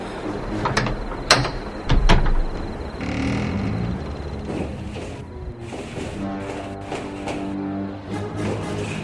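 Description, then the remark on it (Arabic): A heavy door grinds and creaks open with mechanical clanks and rattling, a couple of sharp knocks near the start, then a long scraping, groaning movement with no voices. “انتبه انتبه إلى رأسك من حافة الباب.”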